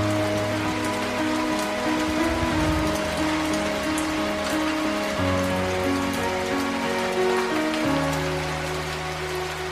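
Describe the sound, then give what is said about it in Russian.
Steady rain patters continuously throughout, a dense hiss of drops mixed with sustained musical chords that shift every few seconds. No voices are heard. “улице дождь, а я здесь совсем один.”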